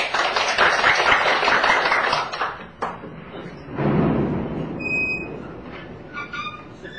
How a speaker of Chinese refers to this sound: 那我们时间现在就鼓掌欢迎黄老师。